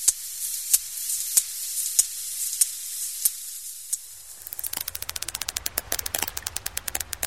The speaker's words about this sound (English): Vester recorded this clicking sound. She says it's sperm whales in search of a meal. Their clicks travel through the water, bounce off clusters of squid or fish, and echo back the good news. It's called echolocation.